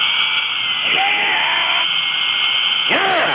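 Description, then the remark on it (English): A dental drill whines loudly and continuously at a high pitch, its tone wavering and dipping briefly twice, once early and again near the end, as a man in a dental chair drills his own teeth, giving himself a root canal. “He is drilling his own teeth.”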